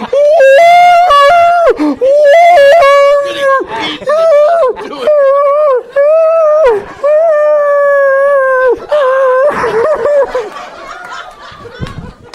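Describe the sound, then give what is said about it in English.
A dog howls and whimpers in a run of long, wavering, high cries, loud, breaking off briefly between calls, with a few shorter yelps near the end. “You feel so bad for the dog.”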